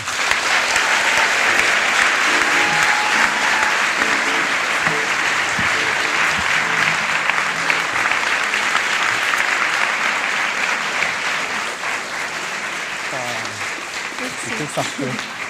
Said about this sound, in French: Merci d'applaudir très très fort